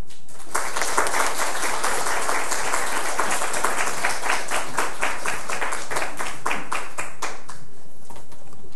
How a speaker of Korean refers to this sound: 우리 장로님 나오실 때에 우리 박수로 환영하겠습니다.